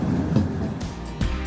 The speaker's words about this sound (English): What we're actually sat on is a Pacer train. They were introduced over 35 years ago and were only supposed to be on the rails for a short time.